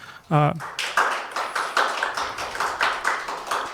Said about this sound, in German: Danke auf jeden Fall schon mal für den Talk und dann nochmal einen Applaus aus der Runde.